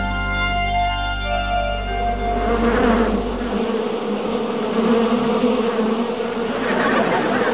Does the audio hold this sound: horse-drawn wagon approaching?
no